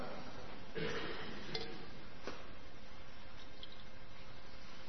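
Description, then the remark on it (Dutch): Warm water pours steadily into a large bowl for a baptism, a continuous splashing trickle with a few brighter splashes along the way, fairly quiet. “Voor dopen hebben we natuurlijk wel water nodig, hè?”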